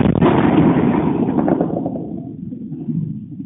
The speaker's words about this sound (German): Russland attackiert die Ukraine mit einem Kampfdrohnengeschwader. Die ukrainische Luftabwehr hält dagegen. Gefilmt wird all das in Rumänien von Bewohnern des kleinen Dorfs Plauru, direkt an der rumänisch-ukrainischen Grenze.